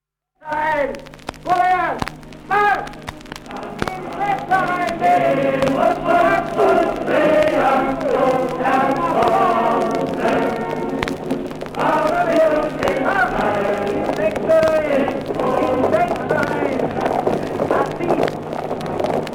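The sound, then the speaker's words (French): Music played from an old vinyl record: voices sing over a dense, steady accompaniment that stays fairly loud and continuous for the whole stretch. “Allez, on continue avec les vinyles toujours.”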